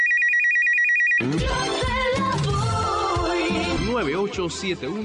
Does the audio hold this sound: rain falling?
no